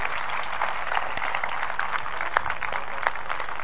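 A crowd of people claps steadily for two players after a game, dense overlapping hand claps forming a continuous wash with a few sharper claps poking out, moderately loud, with no talking over it.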